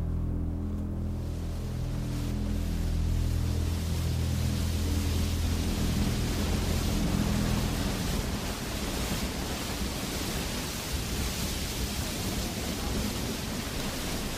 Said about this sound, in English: This cave is on the edge of a waterfall, which divides into two streams and flows on each side of the island.